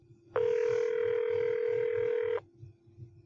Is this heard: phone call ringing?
yes